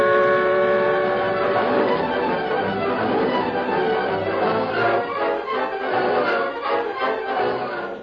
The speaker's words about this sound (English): We're pulling ahead now, Tonto. Train go plenty fast.